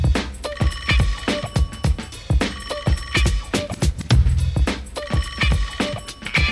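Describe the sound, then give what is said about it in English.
A car phone rings with a steady electronic trill, repeating over a thumping rhythmic beat that hits several times a second, loud throughout, with no voices. “Call the car phone.”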